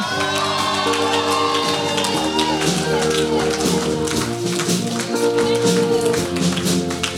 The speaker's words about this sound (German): Und das war schon mal so ein Applaus zum Warmwerden. Das könnt ihr schon merken und gleich geben wir nochmal einen richtigen Applaus.